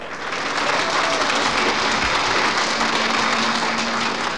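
A crowd applauds loudly and steadily, dense clapping filling the whole few seconds with an even, sustained roar and no pauses.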